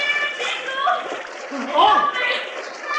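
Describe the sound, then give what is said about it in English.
Rushing, splashing water from river rapids churns steadily throughout as horses, a heavy freight wagon and riders plunge in after a bridge gives way, with bursts of heavier splashing and wordless voices crying out over the roar. “crossed Long Bridge, the timbers cut by One Shot gave out, plunging horses, wagon, and riders into the rapids below.”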